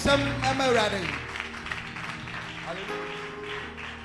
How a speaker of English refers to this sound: Clap your two hands together for Jesus.